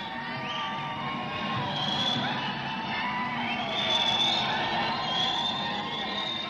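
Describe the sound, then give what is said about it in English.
A crowd of about 8,000 gay men and lesbians at a protest under marble columns screams and shouts continuously, many voices blending into a dense, sustained roar with occasional higher-pitched yells rising above it, loud throughout. “Under the marble columns, there are now 8,000 gay men and lesbians screaming.”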